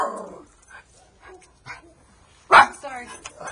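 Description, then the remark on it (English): A puppy lets out one sharp, loud bark after a stretch of softer, scattered yelps and rustling, with a few quieter vocal sounds trailing after it. “Hey, puppy.”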